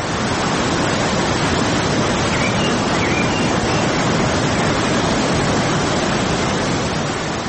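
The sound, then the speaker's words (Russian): A steady, dense roar of rushing water from waterfalls, in a place with countless waterfalls, fills the whole stretch at an even, loud level with no pauses or voices. “И тотчас погрузитесь в оглушительный шум водопадов, которых здесь бесчетное количество.”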